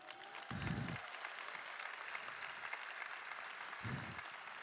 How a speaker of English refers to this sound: Can we clap it up for my homies?